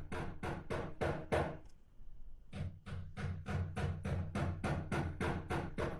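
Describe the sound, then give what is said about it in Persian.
A neighbour hammers nails into the wall of his house at 2 a.m.: steady, rapid hammering, about three to four loud, sharp blows a second. There is a short pause after the first run, then the strikes resume at the same even pace. “همسایه جان ساعت 2 بجه شب چکش به دست گرفته و میخ به دیوار خانه خود میکوبه.”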